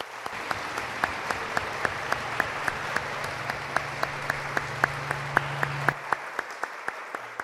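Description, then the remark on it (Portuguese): A crowd applauds a performer again, sharp claps ringing out over a dense wash of clapping for about six seconds before it thins to a few scattered claps. No one speaks. “vou pedir palmas de novo para você, que você arrasou no Maria Cristo.”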